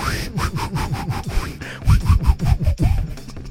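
A rapid run of wet, snotty nose blowing and snorting performed as a talent called the 'nose spirit' (næseånde), with snot pouring out: about a dozen rough rhythmic bursts of air pushed through the nostrils, loud and raspy like sawing, with no talking.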